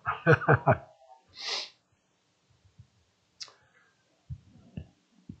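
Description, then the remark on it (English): A short, breathy nose blow, due to allergies, comes after a few quick snorty bursts, followed by faint sniffs and small clicks. It's fairly quiet, with no talking. “Sorry to blow my nose, people. You're going to hear it.”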